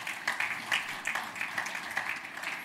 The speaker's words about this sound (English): So I really hope, yeah, it's worth clapping about.